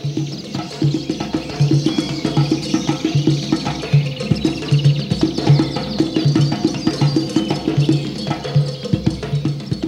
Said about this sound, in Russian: Загадочные птицы-ибисы, зяблики, хитрицы и попугаи. И все они что-то кричат, суетятся. Воздух дрожит от раскаленного солнца и гомона птиц.